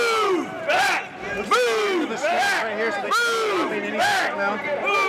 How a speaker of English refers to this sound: Now they're back off their bikes, hoisting them up as barriers in unison as they lunge forward into the crowd, chanting.